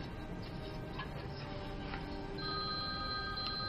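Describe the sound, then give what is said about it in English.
Mehdi's cell phone rings softly, its electronic ringtone of steady high tones coming in partway through over a low, constant background hum, with no one speaking. “It's Mehdi's cell phone.”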